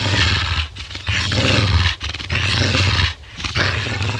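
A large dog on a thick chain snarls and growls in loud, rough bursts, pulling hard on its chain, with brief pauses between three or four aggressive outbursts and no one speaking.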